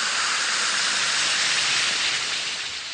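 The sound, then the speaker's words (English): One or two Alka-Seltzer effervescent tablets fizz in a glass of water, a dense, steady crackling hiss that stays fairly loud throughout, easing slightly at the very end, with no voices. “Just drop one or two tablets of Alka-Seltzer into a glass of water like this. Listen to it fizz.”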